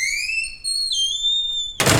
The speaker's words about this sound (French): L'air frais assaillant son visage au moment où elle pousse la porte de son immeuble, son sac sur son dos.